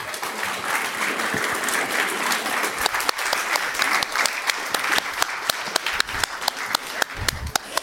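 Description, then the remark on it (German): An audience applauds steadily for all the groups and their projects at a Jugendhack youth hackathon event, a dense wash of many hands clapping with a few sharper, louder claps standing out toward the end. No one speaks over it. “Einen großen Applaus für alle Gruppen noch einmal.”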